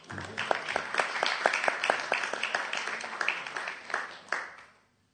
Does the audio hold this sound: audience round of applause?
yes